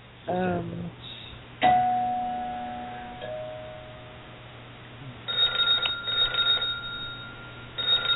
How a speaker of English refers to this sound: Is that the red phone ringing? Red phone. We do have a red phone in the... we do have a caller, too.